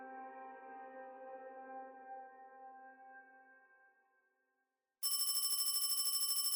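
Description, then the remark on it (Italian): A sustained tone fades into a brief silence, then a loud old-fashioned telephone bell bursts in abruptly, rattling in a fast continuous trill, as a call comes in at a provincial carabinieri station in Arbus. “Una telefonata scuote la serenità di una stazione dei carabinieri di provincia.”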